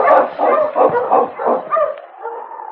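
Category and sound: animal, husky dog barking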